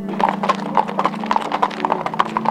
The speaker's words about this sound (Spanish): Mis amigas soñadoras hablaban de restaurantes glamurosos, atardeceres en la montaña y paseos en carruajes tirados por caballos.